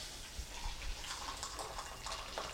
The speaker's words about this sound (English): It's hot water that I'm pouring in the cup for coffee.